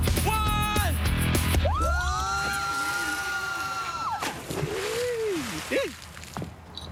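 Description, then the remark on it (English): Several voices scream and yell in long, sustained rising and falling howls as they are dunked in water, loud over a rumbling, sloshing wash of water, the cries trailing off into breathless shouts near the end. “Yeah, after all that screaming, no doubt.”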